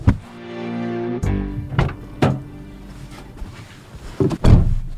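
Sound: car door closing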